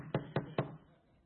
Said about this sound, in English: And that's our head, by the way. Some of us, he has to really knock hard.